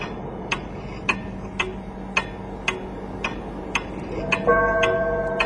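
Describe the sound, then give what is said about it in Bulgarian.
A pocket watch, held in hand while the minutes are counted, ticks steadily, about ten crisp, evenly spaced ticks over a low, dark rumble, with a sustained ringing tone swelling in near the end. “Димитър Златаров, другият ръководител на операцията, вече е застанал на безопасно разстояние от църквата и с джобен часовник в ръка брои минутите по неговите собствени думи.”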